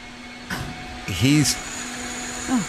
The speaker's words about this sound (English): How goddamn loud it is outside. He's 4 feet away from where these guys are operating a wet saw.